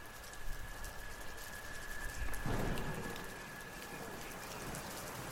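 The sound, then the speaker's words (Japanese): Steady rain patters down on leaves and the ground, a dense, even hiss with a brief swell of heavier drops midway; faint birdsong may sit in the background, and nobody speaks. “そう、これは雨が空から落ちてきて葉っぱや地面に当たっている音なんだね。”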